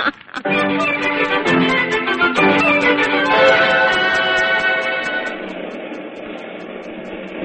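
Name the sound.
subway train running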